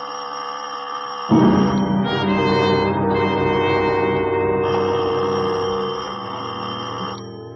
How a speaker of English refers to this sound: Doorbell. It stabbed the air of the quiet house like a knife blade.